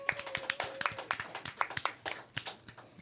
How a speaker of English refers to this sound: Now we get a clap.